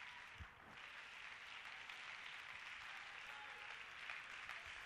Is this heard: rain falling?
no